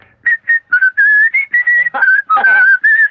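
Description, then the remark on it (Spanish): A person whistles a short, lively tune, a quick series of clear, steady notes with brief breaks between them and a few rising and falling slides, with no talking. “¿Y sabes cantar o silbar así?”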